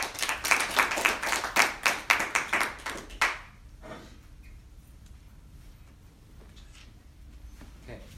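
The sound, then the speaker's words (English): An audience claps for the panelists at the start of a panel discussion, a burst of rapid overlapping hand claps lasting about three seconds before stopping abruptly, followed by a quiet stretch with faint murmurs. “So with that, let's give a round of applause to our panelists and begin.”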